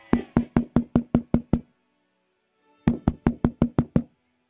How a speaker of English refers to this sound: So he ran up to the door. His heart was beating. And he knocked on the door.